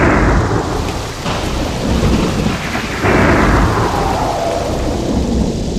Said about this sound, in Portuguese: Raios, chuvas e trovões. Uma trilha para chamar a atenção para o nosso tema de hoje